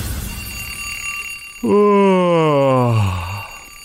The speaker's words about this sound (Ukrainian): Знову цей будильник. Злипаються очі, ненавидиш звук будильника?